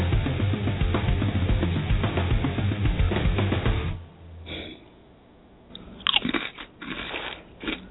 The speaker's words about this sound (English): I'm finishing chewing. No worries.